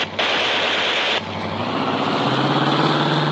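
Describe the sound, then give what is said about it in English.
A car engine runs unevenly: a harsh, roaring burst cuts off abruptly into a rough rumbling idle that shifts up in pitch partway through. No voices. “that car, it's acting oddly.”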